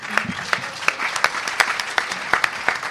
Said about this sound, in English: Sixth in the world, I think. In our competition. Obviously, not everyone in the world would come to our competition. That gets an applause right there, honestly.